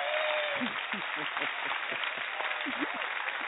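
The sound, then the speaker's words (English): A steady round of applause from a group welcoming a guest fills the moment, dense and continuous at moderate loudness, with voices murmuring faintly underneath. “Definitely got to give you a big round of applause here.”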